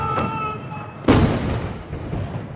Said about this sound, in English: The scene is spectacular. Row upon row of soldiers march in perfect formation down the steps of the Monument to the People's Heroes as cannon fire fills the air.